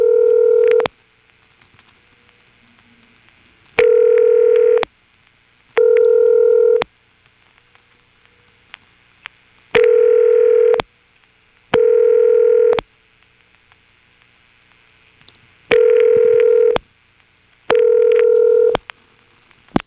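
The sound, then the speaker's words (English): A telephone ringback tone, reached by dialing an odd two-digit code and never answered, sounding in repeated double rings: pairs of steady, buzzy tone bursts separated by short gaps and longer pauses, clear and fairly loud with no one speaking. “Another odd two-digit code which I found just went to a double ring like this.”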